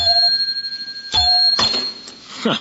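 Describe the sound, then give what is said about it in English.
A desk bell in a lobby dings with a bright, lingering ring, is struck again, then gives a short rattling clatter as though loose metal parts are shaking apart, fairly loud. “Some desk bell. Falls to pieces when you touch it.”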